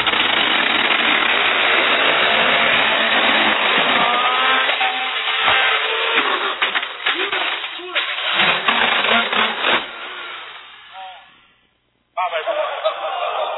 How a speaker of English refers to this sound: just broke Rob's electric chainsaw